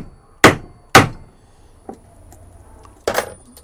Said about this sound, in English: Okay, this is going to be loud. This is probably going to distort in the recording. So I position my screwdriver at the point where I want to make a cut all the way through, and I just punch it by hammering it.